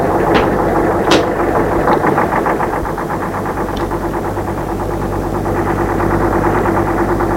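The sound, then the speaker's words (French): Heavy truck engines idle steadily in the street, a continuous low rumble with a rapid throbbing pulse and a few sharp clicks on top, loud throughout. “Réveillé par des bruits dans la rue, de camions, de pas sur les pavés.”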